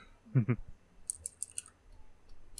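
Computer keyboard typing: two heavier low thumps followed by a quick run of four or five light, sharp keystroke clicks, then a couple of faint taps. Fairly quiet, with no talking.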